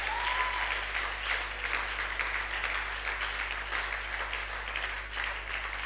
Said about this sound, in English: Can you clap in love to the Most High God?